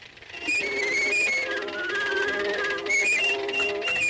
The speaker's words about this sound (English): You know, it was a groundbreaking cartoon, but there was also some groundbreaking music. It proved that, you know, suckling pigs and goats could be musical instruments. Let's hear a little bit of the musical portion.